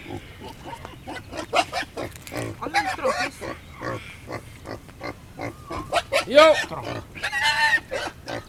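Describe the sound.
A pig grunts in short, rough bursts, then lets out several loud, high squeals toward the end, with people talking over the sounds. The pig is stunned, lying on a West Papuan flag, and its meat is for a mumu.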